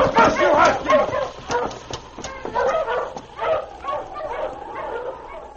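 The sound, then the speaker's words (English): A team of husky sled dogs, urged on as the team is started, barks and yelps in an excited, overlapping chorus, with sharp repeated yips and a few whining cries running steadily throughout. “Marsh, you huskies!”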